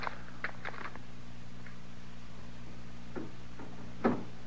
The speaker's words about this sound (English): No, sir, Mr. Dillon, that ain't the wind. There's somebody working the door that way.